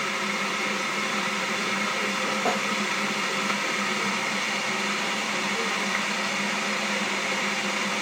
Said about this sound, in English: Now, let's get the kettle on. Doesn't need filling up.